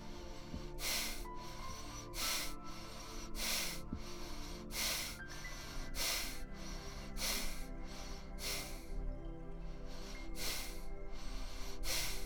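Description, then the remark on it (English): Quick, forceful breaths in and out repeat at a steady fast rhythm, each a sharp airy burst, fairly loud, with no talking. “Speed up your breathing in and speed up your breathing out.”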